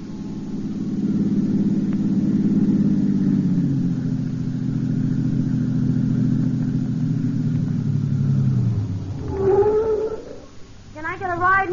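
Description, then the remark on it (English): A car with its headlights on, on the outskirts of a little town at night, gives a steady, low engine drone for several seconds, then winds down in pitch as it slows and pulls to a stop by the roadside for a hitchhiker. Voices begin speaking at the end. “A half hour later, on the outskirts of a little town, my headlights picked up a girl standing by the side of the road.”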